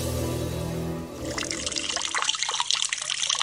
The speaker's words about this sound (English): Turning on the tap for a glass of water, turning on your shower, or even switching on your washing machine.